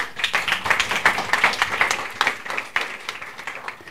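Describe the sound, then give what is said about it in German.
Students of two 11th-grade classes at the Stadtteilschule Fischbeck-Falkenberg in southern Hamburg clap steadily after a 90-minute lecture by a navy lieutenant, many overlapping hand claps forming a dense, moderately loud round of applause without talking. “Hier klatschen die Schülerinnen und Schüler von zwei 11. Klassen aus der Stadtteilschule Fischbeck-Falkenberg.”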